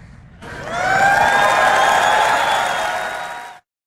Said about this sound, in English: I don't know what's scarier, the fact that that call took place or the fact that everyone's cheering after it took place. For me, that's totally nuts.